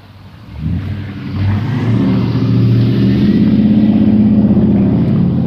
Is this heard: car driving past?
yes